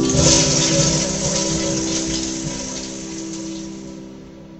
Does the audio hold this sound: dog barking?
no